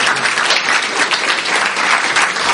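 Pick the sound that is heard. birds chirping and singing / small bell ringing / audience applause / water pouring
audience applause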